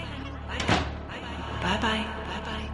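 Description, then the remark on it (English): A door thuds shut once with a short, fairly loud knock as someone walks out to leave for work in the morning, followed by someone speaking over a faint steady background hum. “Not now, I say, giving him a quick kiss as I walk out the door.”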